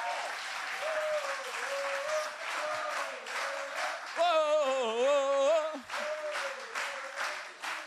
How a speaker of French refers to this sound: Donc, je pense que ça serait bien de l'applaudir, parce qu'il a fait un travail merveilleux.